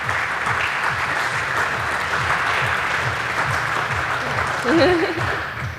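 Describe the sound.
A crowd applauds steadily after a talk, a dense wash of clapping that holds level for several seconds, with a brief voice rising above it near the end.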